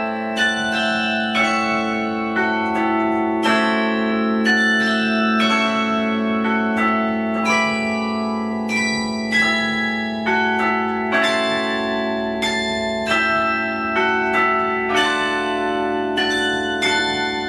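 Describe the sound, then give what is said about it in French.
Carillon bells ring out a Christmas carol, a steady melodic run of struck bell tones with long overlapping resonance, loud and sustained throughout with no voices. “Et c'est là qu'elle est tombée en amour avec le carillon.”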